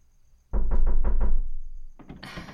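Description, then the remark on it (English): Four heavy, evenly spaced knocks thud on a door, followed by a fainter scrape and a brief burst of bright rustling noise. “Don't answer the door.”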